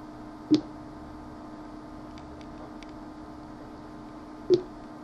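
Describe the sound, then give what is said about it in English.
Two short, low electronic beeps about four seconds apart, download progress tones for an MP3 file downloading from media.libsyn.com, with the second sitting slightly higher in pitch, over a faint steady hum with no talking. “As it gets higher in pitch, the more the download progresses.”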